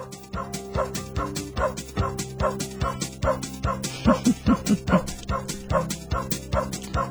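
Dogs bark in a steady, bouncy rhythm over light music, the yaps spaced like notes of a cheerful holiday jingle, with a short run of higher, quicker barks near the middle.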